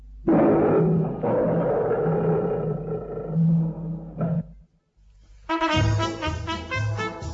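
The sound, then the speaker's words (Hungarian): A loud lion roar rumbles for about four seconds with deep, rough growling, then breaks off briefly before another harsh, ringing roar bursts in. “az elszabadult oroszlán, kompozíció Nagy Lajos novelláiból.”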